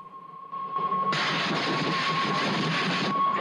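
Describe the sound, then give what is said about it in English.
A steady, high train whistle sounds, then a loud rushing roar suddenly swells as the train thunders into a tunnel, staying constant to the end. “The boy hears the train whistle.”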